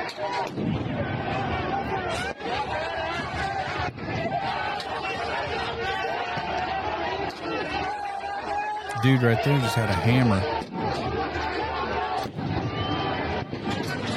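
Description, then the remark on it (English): A dense, agitated protest crowd, angry over cartel violence, corruption and the murder of a local mayor, roars and shouts continuously at a building as barriers are breached, punctuated by sharp bangs at irregular intervals, with one loud raised voice surging out midway and a man speaking over the din. “That looks like a Baltimore mostly peaceful protest to me.”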